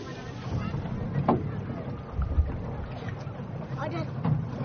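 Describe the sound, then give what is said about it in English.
A small open banana boat motors steadily across water to Wene island in the Carteret Atoll, engine rumble mixed with splashing and wind buffeting the microphone, with faint voices underneath. “I take a banana boat to Wene, the smallest and most eroded of the islands.”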